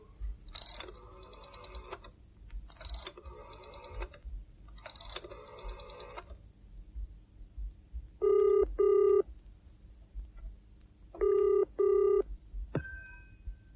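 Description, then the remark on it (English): A telephone is dialed with three rattling, whirring bursts, then the line rings with two double-pulse ringing tones, ending in a sharp click as it's picked up. No one speaks. “At last, since neither came, she rose, walked over to the telephone, and dialed.”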